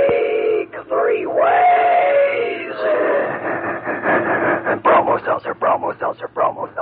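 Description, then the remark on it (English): A Bromo Seltzer train sound effect opens with a whistle-like wail, then settles into a steady chugging rhythm as voices chant in time with it, loud, like an imitation of a moving train. “and a good old Bromo Seltzer train.”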